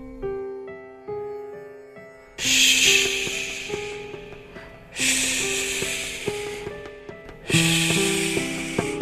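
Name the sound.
loud snoring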